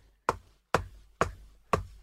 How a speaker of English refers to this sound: And there's a pause. And then everyone in the room hears five knocks, seemingly coming from nowhere and everywhere all at once.